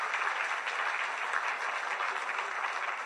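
crowd, audience applauding

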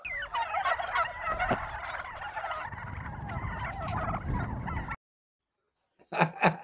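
bird, turkey gobbling

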